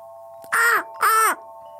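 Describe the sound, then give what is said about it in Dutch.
A voice imitates a seagull with two loud, harsh squawks in quick succession, each brief with a rising-then-falling pitch, with no talking around them. “Het of is een vogel. Een vogel, oké. Ja. Als ik een geluid zou moeten geven, zou ik zeggen”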